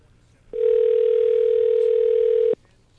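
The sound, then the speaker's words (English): A single steady telephone ringing tone sounds for about two seconds, loud as if through the handset after dialing a number, then cuts off into quiet line hiss. “I'm hearing lots of ringing, but not a lot of hellos.”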